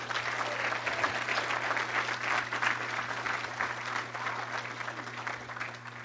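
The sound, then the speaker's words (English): An audience claps steadily for several seconds, a dense, even wash of many hands with no voices over it, holding at a moderate level throughout over a faint low electrical hum. “You want to give Rick a round of applause, please?”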